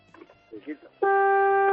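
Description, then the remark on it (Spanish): A few moments of talking give way to a loud, sustained truck horn blast, a steady low-pitched tone with strong harmonics that holds unbroken until the end. The horn is sounded from inside the truck in La Galota, where it is 18 degrees. “¿Eres de los que tiene la bocina fuerte? Pues regular. A ver, vamos a comprobarla, dar un poquito.”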